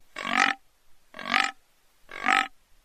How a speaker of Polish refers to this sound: Jeśli więc ktoś usłyszy takie dźwięki, to znak, że w pobliżu jest bekowisko, mówi Łukasz Wyżykowski z Nadleśnictwa Kalisz.